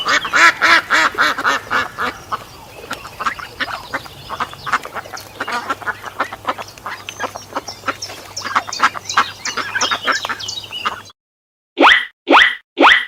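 A duck quacks repeatedly in a rapid, raspy series for about eleven seconds, loud, with a low steady hum beneath, then three separate sharp quacks after a short silence.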